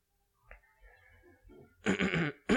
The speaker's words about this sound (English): Excuse me, I have a little bit of a cough, so if I start coughing, I've had it for about 6 weeks now, so please forgive me.